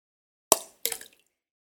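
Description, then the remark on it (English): An object drops down a well into water with a sharp plop, followed a moment later by a brief splashy burst and fading trickle. Moderately loud and short, with no voices. “I got a little wet, but that's what she heard. Did you hear that? There was water down the well.”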